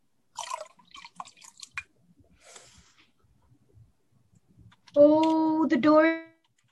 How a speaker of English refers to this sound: That solution can melt the door. How do we use it? simply pour it onto the door, and the door will melt instantly. Very simple.